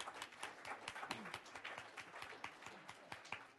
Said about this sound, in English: But she's been working tremendously hard at this event, and I think we all owe her a round of applause as well. So please.